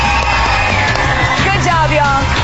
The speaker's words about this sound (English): You better keep cheering, girls. Better keep cheering.